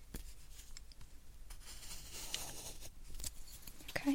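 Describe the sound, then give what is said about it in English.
Soft scratching of a pencil writing on paper near the listener's right ear, with short irregular strokes and light taps, quiet and intimate with no talking. “I'm going to write one of your side near your ear with the pencil.”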